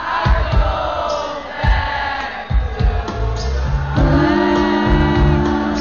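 A large concert crowd sings the lyrics themselves loudly over live music, many voices merging into sustained, wavering melodic lines above steady low drum and bass thumps, with occasional shouts rising from the mass.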